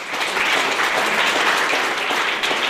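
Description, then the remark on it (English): Steady, sustained applause from an audience at the Sustainable New Zealand party launch at Zealandia in Wellington, New Zealand, greeting policies like a $1 billion conservation funding boost; many hands clapping at once in a dense, continuous patter, fairly loud and even, with no voices standing out. “Sustainable New Zealand's policies, like giving conservation a $1 billion funding boost, were met with applause at the party launch at Zealandia in Wellington.”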